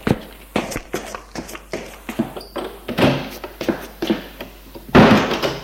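footsteps

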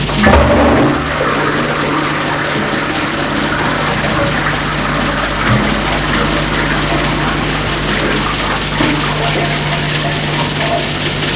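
toilet flush

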